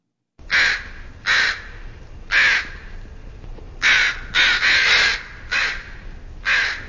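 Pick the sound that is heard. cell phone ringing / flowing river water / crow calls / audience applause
crow calls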